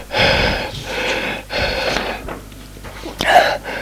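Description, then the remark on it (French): Heavy, ragged panting of a naked, dripping man out of breath after getting out of a bathtub: four or five loud, rasping breaths in quick succession, with a sharp gasping intake near the end. No one speaks. “Lui, nu, ruisselant, souffle.”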